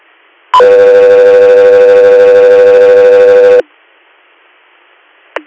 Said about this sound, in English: Guthrie Air, stand by for tones.